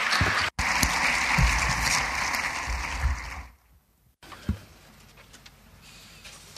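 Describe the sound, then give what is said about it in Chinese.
An audience claps steadily in a dense, loud wash for about three seconds to welcome Nick Stern to give a speech, then the applause quickly dies away, leaving only faint scattered sounds. “让我们 鼓掌，有请 Nick Stern 先生来给我们做演讲。”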